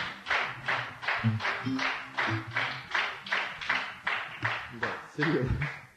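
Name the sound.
audience clapping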